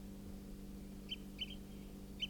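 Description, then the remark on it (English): Wild bird flight calls, type 4: three or four short, high chirps at irregular intervals, one a quick double note, heard faintly over a steady low hum with no voices. “It's giving flight calls, type 4.”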